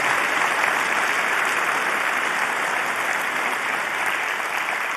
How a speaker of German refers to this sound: Ja, außerdem gibt es ganz viele Leute, die seit Wochen hier sind in den Hallen und den Kongress aufbauen, freiwillig, ohne Bezahlung. Genau, das hat auf jeden Fall einen Applaus verdient.